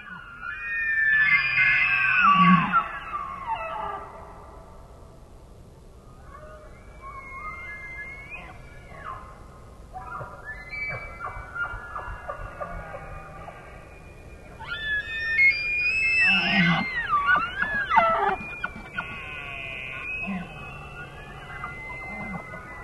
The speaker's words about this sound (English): To me, it almost reminds me of Tibetan throat singing. The way the different sounds that the elk can produce out of their throats and their apparatus for making sound is phenomenal. It's very singing. It is very much like singing.